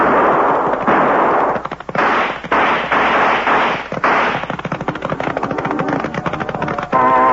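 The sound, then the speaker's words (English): A shootout of loud, sharp gunshots, with men firing from up in rocks, fires in rapid overlapping bursts, then tightens into a fast rattling volley near the end. No one speaks. “Either our shooting was better than we were entitled to expect, or the blackguards who tried to ventilate Phil's back didn't have any salt.”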